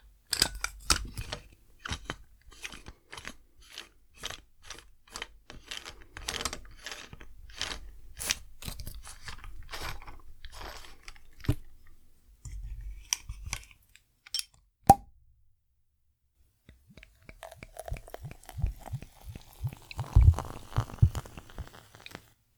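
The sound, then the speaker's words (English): A run of sharp crunching clicks and a single pop as a cork under the cap of a beer bottle is opened, then beer pours from the bottle, foaming up instantly, with a gurgling, rising tone and a fizzy foaming hiss. No one speaks. “It was a very light pour because it foamed up like instantly as it comes out of the bottle.”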